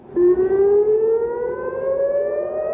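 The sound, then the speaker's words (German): Air raid sirens wail steadily in Israel shortly before 3 a.m., waking people, a loud sustained tone slowly rising in pitch over a rumbling background, with no voices present. “Mit Sirenengeheul wachen die Menschen in Israel um kurz vor 3 Uhr morgens auf.”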